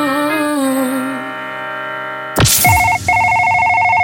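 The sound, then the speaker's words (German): An electronic phone tone plays, then a sharp click gives way to a steady, loud dual-pitched telephone signal that briefly cuts out and resumes, like a call being placed. No voices. “Genau so ein Anruf könnte in den nächsten Tagen oder Wochen bei Ihnen ankommen.”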